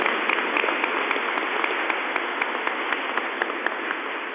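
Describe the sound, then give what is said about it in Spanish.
Sustained audience applause, given to visiting priostes of the Rey de Reyes from Riobamba, a dense wash of many hands clapping steadily with a few sharper claps standing out, fairly loud and continuous with no talking. “También le damos un fuerte aplauso a los priostes del Rey de Reyes de Riobamba que nos visitan aquí un año más.”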